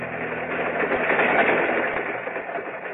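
moving train

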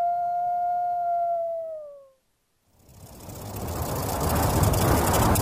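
wolf howling

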